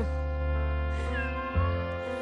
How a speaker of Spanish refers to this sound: ¿Eso suena a gata? Sí.